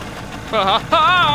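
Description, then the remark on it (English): A low, steady rumble, then two bursts of a buzzing, wavering motor whine as an engine sputters to life and keeps running, the second burst louder and longer. “Now sit down so you don't fall out when I start the motor.”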